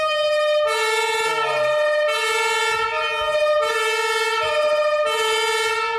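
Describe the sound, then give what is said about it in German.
A loud fire engine siren, switched on with a red button inside the fire engine, blares its two-tone wail, switching steadily between a lower and a higher pitch about every second, with no voices over it. “Die Feuerwehr kommt. Genau. Blaulicht, kann ich auch mal anmachen?”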